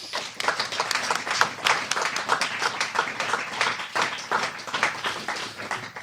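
Sustained audience applause, a dense crackle of many hands clapping steadily at a fairly even loudness for several seconds, with no voices standing out.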